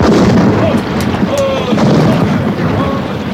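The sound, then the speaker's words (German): A broadside of ship cannons thunders in a dense, continuous roar as a ship fires all its guns at the Spanish ship Natividad. Several sharp booms stand out over the rumbling din, with shouting voices mixed faintly into the battle noise. “Feuer aus allen Kanonen! Ran an die Natividad, Leute! Ran! Gebt Feuer!”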